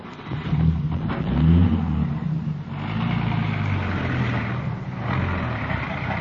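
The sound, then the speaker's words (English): A police radio car's engine rumbles, revving up with a rising pitch before settling into a steady drone as the car pulls away and drives off, with no voices. “Here's the radio car. Won't take a minute to check your story.”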